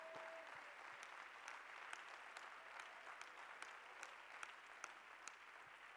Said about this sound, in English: And everybody say, in the name of Jesus. And like you really mean it, will you clap your hands to the Lord?